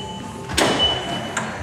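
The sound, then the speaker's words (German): An electrically operated car trunk lid shuts with a solid thud, followed about a second later by a shorter latch click, over a faint, steady mechanical hum. “Wir haben die Kofferraumklappe elektrisch öffnen und schließen.”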